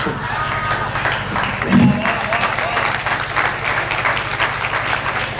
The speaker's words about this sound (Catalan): Vull fer un agraïment i demanar un fortíssim aplaudiment a nostres tres animalets, deixeu-me dir així.